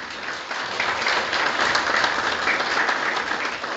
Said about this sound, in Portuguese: Recebemos com uma salva de palmas, desde já, a presença do professor